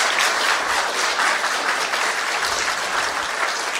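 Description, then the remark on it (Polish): Loud, sustained applause from a large audience at an event in the Museum of Coins and Medals (Muzeum Monet i Medali), dense overlapping claps forming a steady roar with no voices standing out, holding at full strength throughout. “Oklaski teraz wielkie.”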